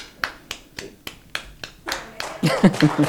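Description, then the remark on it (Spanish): A woman in the audience of a talk show claps alone in a slow, steady rhythm, about seven claps, then the rest of the audience joins and the clapping thickens into a louder burst mixed with voices. “La gente ha seguido a esta señora del público que ha empezado a aplaudir.”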